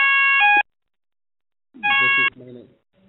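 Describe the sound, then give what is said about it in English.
An ambulance siren blares in two short, loud bursts of a harsh two-tone wail separated by a brief silence, with faint murmuring voices trailing off after the second burst. “The ambulance?”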